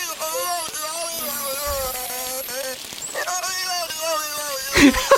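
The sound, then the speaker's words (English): A whale vocalizes in a continuous run of rich, harmonic calls whose pitch wavers up and down almost like muttered speech, ending in a brief louder, rougher burst. “And I swear to God, this whale sounds exactly like a taxi driver in Dublin.”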